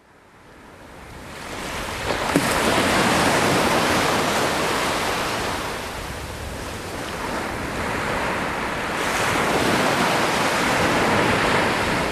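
waves on a beach

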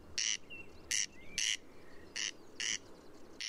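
corncrake rasping call

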